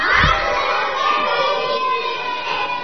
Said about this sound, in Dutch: Dus je moet wel heel hard roepen. Dus ik tel tot 3 en dan roepen jullie keihard, hartelijk gefeliciteerd. Ja, dus 1, 2, 3.